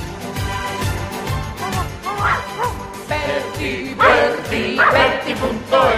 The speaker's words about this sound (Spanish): Mira qué contento se pone nuestro perrito Tejoti. Mírale qué contento está